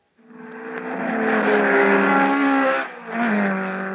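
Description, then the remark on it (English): A powerful sports car engine revs loudly, a sustained rising roar with a brief dip before it surges again, with no voices. “But such cars have high-performance engines, and they need the high-performance protection of new Kendall GT1 racing oil.”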